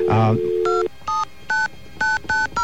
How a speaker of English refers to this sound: By dialing the exchange plus 9901, you usually find out what the switch is.